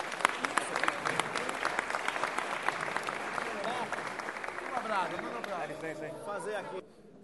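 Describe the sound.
Audience applause for a visiting samba group: a dense, steady stretch of many hands clapping with crowd cheers and voices mixed in, then it drops off sharply near the end.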